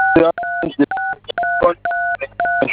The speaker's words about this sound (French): évitez de toucher les boutons de votre téléphone, d'accord? J'ai un téléphone combo. D'accord, mais si vous touchez les boutons, je n'arrive pas à vous entendre, d'accord?